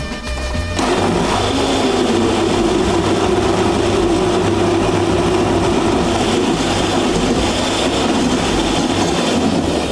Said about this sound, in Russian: Чтобы приготовить соус, мы должны взять помидоры, небольшое количество помидор, порезать их, положить в блендер и сделать из них пасту.